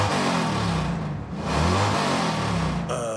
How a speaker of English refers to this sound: No, you might be hungry, but that sound means your muffler is busted. I just drove all the way from Arizona. That sound means I need more gas.